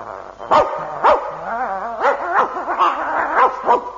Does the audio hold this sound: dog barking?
yes